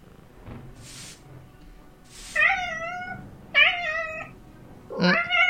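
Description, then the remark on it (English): A ship's hold cat in a video game meows three times in a row, loud, each call drawn out and slightly wavering, preceded by a couple of soft breathy hisses with no talking. “Meow. I'll distract him.”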